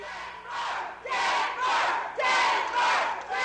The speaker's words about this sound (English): Denver! And what they're yelling is Denver, Denver, Denver, unhappy with the way it was going for Hillary Clinton.